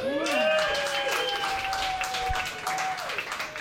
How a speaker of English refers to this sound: Thank you. Your polite applause feels just as good as getting drunk used to.